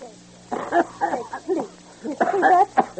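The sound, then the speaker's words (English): A man with a cold coughs in several rough, throaty bursts, some clustered tightly, spread across a few seconds with brief pauses between fits. “You're coughing, so you have a cold, and I should go to movies.”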